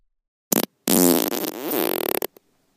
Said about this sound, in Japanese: 肺の中が侵食されていく。脳を犯すような強烈な匂い。鼻だけじゃなくって喉や肺で全身で私のおならを感じてね。